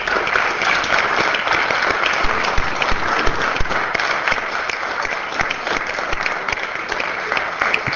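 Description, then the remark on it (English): A roomful of people clapping steadily for standing committee members at a legislative session, dense and sustained applause filling the whole span at an even level, with no talking over it. “I think they deserve a round of applause.”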